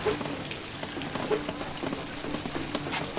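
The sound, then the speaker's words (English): Steady rain patters on a hard surface under a gray sky, a dense, continuous hiss with scattered sharper drips, moderately loud and with no voices. “The rain. The sky. Is gray It is raining.”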